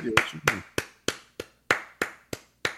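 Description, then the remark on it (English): A run of about nine sharp hand claps in a steady, quick rhythm, each a crisp bright smack, with a brief murmur of voice underneath the first couple. “No, it's clapping for sure.”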